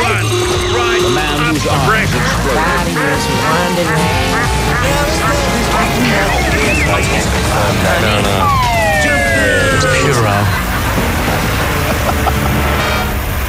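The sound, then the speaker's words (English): A loud, chaotic pile-up of aooga horns and similar honking and siren-like effects, made by pushing all the sound-effect buttons at once, with swooping pitches layered over each other continuously for the whole stretch. “I'd like Richard to do his cacophony of all those arugas and other similar sounds.”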